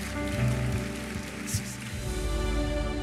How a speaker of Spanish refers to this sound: Y todos dicen, vamos a celebrar con un aplauso muy fuerte.